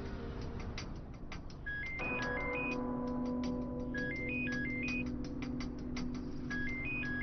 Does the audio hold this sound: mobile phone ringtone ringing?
yes